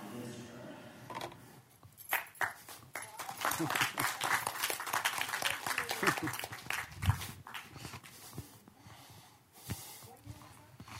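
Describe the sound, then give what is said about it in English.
Shoes clap together again and again in quick, irregular bursts of sharp, hard smacks, fairly loud, marking the end of a performance at the Kunsthalle Zurich, with a rustling background and faint murmuring voices underneath. “He's the clapping of those shoes.”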